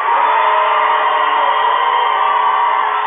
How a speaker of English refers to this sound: Plenty of crowd noise here. In fact, it is a packed gym. Both these two towns meeting up here tonight for the C bracket as well as the B bracket games.